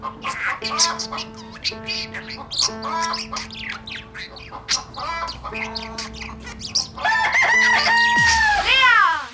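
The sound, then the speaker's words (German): A collage of sounds: rapid budgerigar chirps and chatter over sustained piano notes, then a loud chicken crowing near the end. No one speaks. “Du hast ein Huhn gehört, einen Wellensittich und das Klavier war der falsche Sound.”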